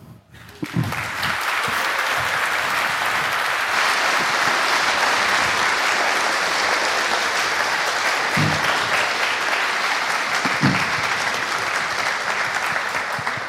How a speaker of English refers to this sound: Applause well earned.